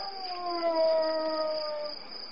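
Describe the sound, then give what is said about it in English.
A wolf howls in cold weather in one long, sustained note that slowly sags lower in pitch, fairly loud and steady, over a constant high-pitched background whine with no voices. “It was a wolf.”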